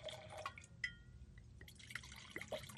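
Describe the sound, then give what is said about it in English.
Wine splashes into a glass in a short, quiet pour, with bright gurgling plinks and droplets rising in pitch over a soft room hum. No one speaks. “Pour me a splash.”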